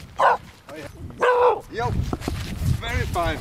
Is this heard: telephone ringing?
no